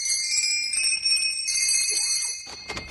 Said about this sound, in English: We walked over to Santy's workshop, rang the bell.